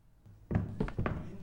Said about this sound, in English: Well, what are you waiting for, honey? Shut the door.